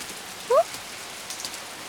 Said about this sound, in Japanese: この雨、止む様子がないです。はあ、雨宿りなんて久しぶり。